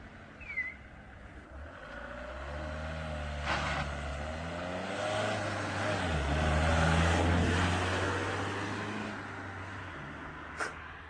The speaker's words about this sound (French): C'est comme ça, le matin, quand il y a le marché des bras, c'est comme ça, il y a des voitures qui arrivent et ils chargent jusqu'à 10-12 personnes dans la voiture.